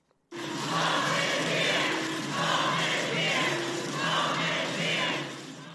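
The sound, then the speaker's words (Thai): A large crowd of several hundred young undocumented immigrants chants the slogan "Home is here" in unison in front of the US Supreme Court in Washington, D.C., loud and sustained, with the phrase repeating in a steady rhythm roughly every couple of seconds amid the roar of many voices. “เสียงร้องตะโกน Home is here หรือบ้านของเราอยู่ที่นี่ดังกึกก้องไปทั่วบริเวณหน้าศาลฎีกาของสหรัฐในกรุงวอชิงตันดีซีนะคะเป็นเสียงของหนุ่มสาวหลายร้อยคนที่เข้าเมืองโดยไม่มีเอกสารถูกต้องหรือเรียกว่าเป็น Undocumented Immigrant”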